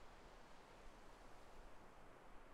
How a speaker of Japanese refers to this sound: 一人で来た時はこんな感じで、ただ座って波音を聞いていたりもするんです。